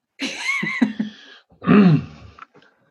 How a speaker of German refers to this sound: Entschuldigung, vor lauter Corona muss ich schon husten.